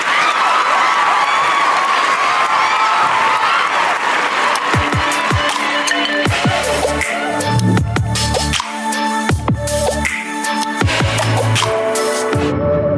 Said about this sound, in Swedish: Applåder.